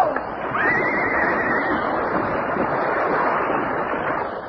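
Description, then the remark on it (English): A horse lets out a loud, shrill whinny that wavers for about a second as it loses its footing and falls in a landslide on a steep mountainside during a thunderstorm, over a steady roar of rushing, wind-like noise that continues to the end. “His horse lost its footing and fell.”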